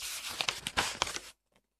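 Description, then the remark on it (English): A page of the illustrated story book Birthday Bear being turned back to the first page: about a second of dry, crinkly paper rustling with a few sharp crackles, then silence and a tiny soft rustle. No voices. “Turn back to the first page.”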